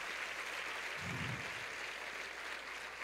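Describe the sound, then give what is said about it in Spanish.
A crowd claps steadily throughout, a dense, even wash of applause, with a brief low murmur partway through and no clear speech. “Si ese es el, vamos, si ese es el aplauso.”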